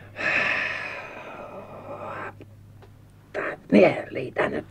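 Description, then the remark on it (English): A voice imitates James the engine panting as he strains to pull trucks up a hill: a long, loud breathy huff, then a pause and several short, effortful puffing bursts. “Panted James.”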